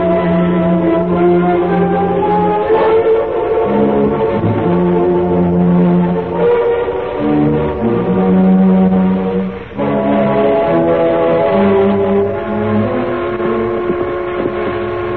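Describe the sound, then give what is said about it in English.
A loud whistle of an eastbound train blows in long, sustained chord-like blasts, its steady tones shifting slightly in pitch and droning on without a break, with no voices present. “Eastbound now. That's her whistling.”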